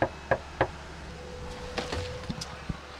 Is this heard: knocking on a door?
yes